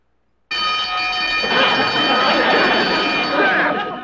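A desk buzzer on the side of a desk in a law office sounds loudly and continuously, starting abruptly and droning for several seconds without pause, its steady electric tone turning harsher and more rattling partway through.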